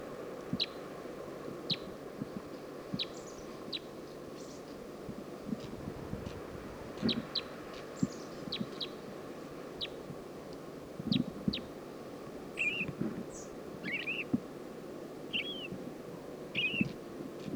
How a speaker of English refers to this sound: Recording at 10:25, and we're along the road going down to Stinson Beach. Saw a flock of four crossbills up on top of a Douglas fir, and this is one lone female.